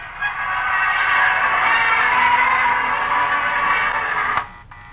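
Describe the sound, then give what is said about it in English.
A huge crowd of thousands in Times Square, three hours before the new year: a dense, steady roar of countless blended voices holding at one loud level, then cutting off abruptly just before the end. “We're broadcasting from the heart of Times Square, surrounded by thousands of persons waiting to usher in the new year just 3 short hours away. Listen to that crowd.”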